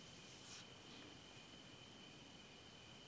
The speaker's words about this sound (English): The moon is bright. The crickets are just the right volume. Ideal conditions for meditation.